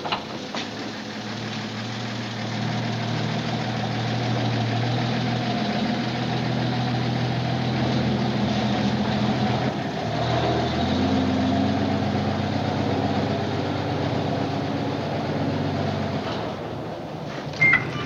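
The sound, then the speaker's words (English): A heavy tow truck engine idles steadily with a low, rumbling drone and a constant mechanical hum as it is pulled into a shed, briefly shifting in pitch midway before settling back into the same even rumble. No voices. “The guy gets out of the tow truck, pulls it into a shed of some kind.”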